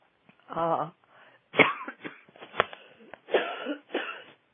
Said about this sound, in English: excuse me. And a tickly cough that caught me.